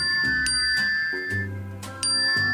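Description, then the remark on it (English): A phone's text message notification sound plays on its own: a short, clean electronic melody of several sustained chiming notes over a soft low tone, lasting a couple of seconds. “And of course, the notification sound, you know, mine is this notification sound right here.”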